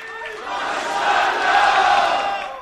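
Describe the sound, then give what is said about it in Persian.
An audience at a coaching course event breaks into applause in someone's honour, mixed with crowd cheering, a dense, noisy wash that swells to a peak and then tapers off over nearly three seconds. “یه دست به افتخار”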